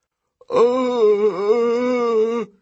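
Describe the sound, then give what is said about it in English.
A single long, low moan from a man's voice voicing the dazed Cyclops Polyphemus, drawn out for about two seconds with a brief wavering dip in the middle, fairly loud, with no other talking. “The Cyclops moaned, pitifully staring up at me.”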